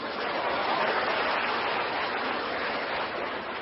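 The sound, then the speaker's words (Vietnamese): A crowd claps steadily, a dense, even wash of hand claps that holds at a constant loudness for several seconds, with no voices above it. “Nhờ các bạn niệm Phật á, cho chàng pháo tay đi.”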